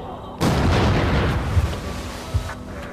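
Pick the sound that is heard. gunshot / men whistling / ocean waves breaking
gunshot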